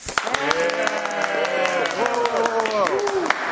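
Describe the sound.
A crowd bursts into loud, dense clapping that runs steadily for a few seconds, mixed with sustained cheering and whooping voices throughout.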